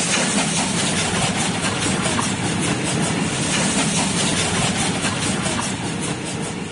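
A steam train rolls along the rails with a steady, rhythmic clickety-clack over a dense, loud rumble of wheels and engine, continuous throughout, with no voices.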